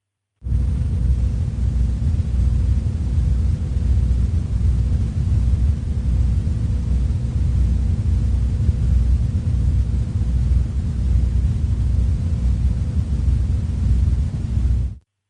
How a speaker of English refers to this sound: And here is a recording of the early 1990s Taos hum.